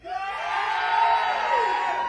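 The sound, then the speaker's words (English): A crowd screams and whoops loudly in a sustained, dense roar of many voices, with a few higher shrieks rising over the top, filling the whole couple of seconds. “Scream real loud.”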